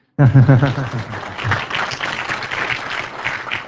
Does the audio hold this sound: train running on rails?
no